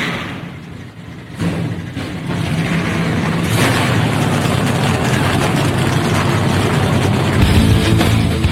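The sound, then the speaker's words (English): Several race car engines at Las Vegas Motor Speedway fire up one after another on the start command and quickly swell into a loud, steady, rumbling roar that fills the space, with no voices over it. “Drivers, start your engines! The command has been given. Let's crank them up.”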